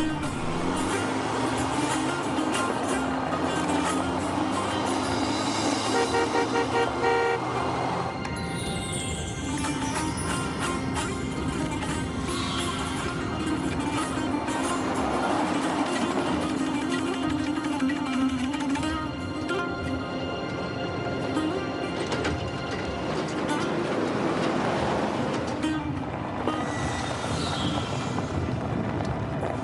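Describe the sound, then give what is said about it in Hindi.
A vehicle drives steadily along a road, its engine rumbling loudly and continuously with rattling and road noise, and no voices can be heard. “जरा आहिस्ता से चलाओ, वो बेचारा उस खटारा गाड़ी से हम तक पहुंच नहीं पाएगा।”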